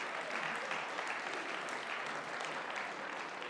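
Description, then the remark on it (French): A crowd claps steadily throughout, applauding a speaker again, a dense, even wash of applause with no pauses, sustained at a moderate level and no voices standing out. “Merci, on peut l'applaudir de nouveau.”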